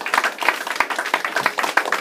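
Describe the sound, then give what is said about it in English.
A crowd claps steadily, a dense run of overlapping sharp hand claps at a fairly loud, even level with no one speaking. “Yeah, clap for you.”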